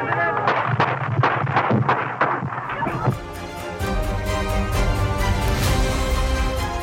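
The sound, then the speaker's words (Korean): A rapid string of sharp cracks of several gunshots fired outside a hotel in Washington, DC, as President Ronald Reagan was about to get into his car, ringing out over a noisy background for about three seconds, then giving way to a dense, continuous wash of sound. “막 자동차에 오르려는 순간 여러 발의 총성이 울렸습니다.”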